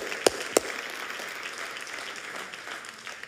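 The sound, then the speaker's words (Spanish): An audience applauds together, a dense steady wash of clapping with two sharp, louder claps standing out near the start, continuing without any speech. “Vamos a aplaudir todos juntos en el nombre del Señor.”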